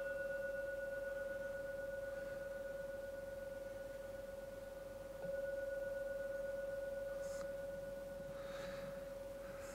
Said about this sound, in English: I will now ring the gong 3 times. And the third ringing of the gong fades away. That's a signal to come out from the meditation.